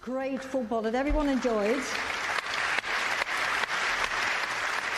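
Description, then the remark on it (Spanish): A large audience at an award ceremony applauds the Spanish women's football team steadily and loudly, a dense, sustained clapping that fills the whole clip, with a wavering voice calling out over it during the first couple of seconds. “Les voy a dar de nuevo un gran aplauso y espero que se unan a mí.”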